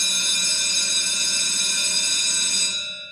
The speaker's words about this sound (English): There it is, that bell every day on Busted Pencils.